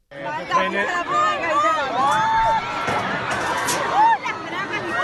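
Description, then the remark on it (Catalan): A busy market crowd: many voices chattering and overlapping in a steady loud hubbub, with occasional raised shouts and calls cutting above the babble throughout. “Aviam, és una escena que es produeix en un mercadillo, perquè, home, hi ha bon ambient de fons, hi ha molta gent, hi ha crits...”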